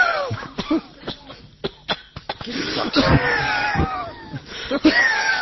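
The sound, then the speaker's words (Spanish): A burst of repeated coughing from a man who has just licked powdered sugar: several sharp hacking coughs in an uneven rhythm, with throat-clearing sounds mixed in and people's voices reacting around them. “Le trajo tos, es rarísimo.”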